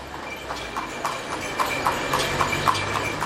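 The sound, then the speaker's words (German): Steady clip-clopping of donkey hooves pulling a cart through a small country town in Senegal, a regular trotting rhythm of sharp knocks over a constant rumble of wheels and outdoor background noise. “Mit ihren Eselskarren haben Kleinstädte auf dem Land in Senegal etwas Malerisches.”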